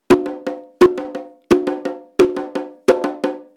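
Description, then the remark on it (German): A candombe chico drum, one of the three drums of candombe, plays its basic rhythm alone: a steady, repeating figure of one sharp accented stroke followed by two lighter taps, ringing with a bright, high pitch. “Das ist der Chico. Diese Trommel ist der Grundrhythmus, der Motor des ganzen Candombes.”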